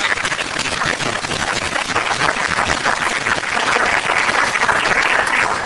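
A crowd applauds in a steady, dense burst of clapping that holds at a loud, even level for several seconds and swells slightly toward the end, with no voices.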